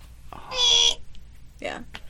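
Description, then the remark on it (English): During a trivia quiz about Twilight, a voice imitates a buzzer: one loud, nasal, high-pitched blast lasting about half a second, followed shortly by a briefer, quieter vocal sound. “I just wanted to make my buzzer sound.”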